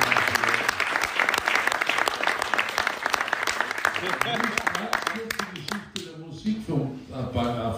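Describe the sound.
A crowd applauds a performer being introduced, with dense, steady clapping for about five seconds, then the clapping thins out and a voice starts speaking as it fades.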